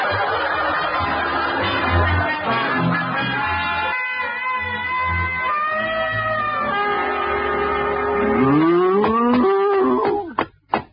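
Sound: cow mooing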